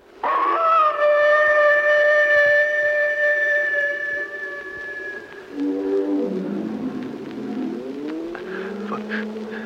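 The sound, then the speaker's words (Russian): An eerie, dog-like howl on the moor holds a long, loud, high note for about five seconds, then gives way to lower, wavering howls that slide up and down in pitch. “Ватсон, что это? Это была собака? Говорят, здесь так кричит какая-то птица.”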